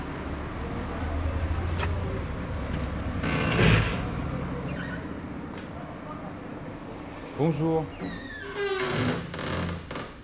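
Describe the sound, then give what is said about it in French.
A shop door on rue Fondaudège creaks and squeals in a series of wavering, high-pitched groans, after a burst of rattling noise, with a brief spoken greeting and street sounds underneath. “C'est une porte bavarde.”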